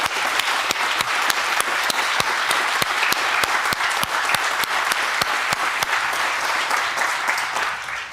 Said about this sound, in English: The content team has been working hard putting this together, and all the people who submitted, thank you all. Let's give everybody involved a big round of applause.